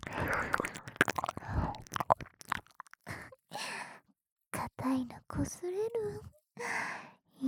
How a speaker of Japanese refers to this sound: それじゃあこれは耳なめの効果かな。エッチな吐息とエッチななめ音で聴覚を満たされながらのしこしこ好きになっちゃった。